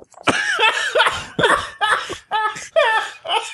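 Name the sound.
coughing fit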